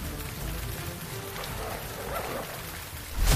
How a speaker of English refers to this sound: Seems like dark night. Now it's starting to rain again.